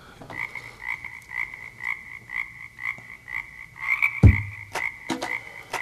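A toad croaks over and over in a steady, evenly spaced series of high, buzzy calls, about a dozen in a row, with one sharp knock partway through.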